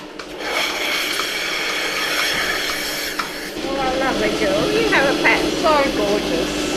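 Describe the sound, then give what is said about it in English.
Milking machines in a buffalo dairy run with a steady, loud mechanical chug and hiss throughout, powering the suction cups as buffalo cows are milked, a continuous rumbling drone, while voices come in over it partway through. “I don't know if you can hear the chug of the machines behind us powering the suction cups, and I can see the milk going up into the pipe”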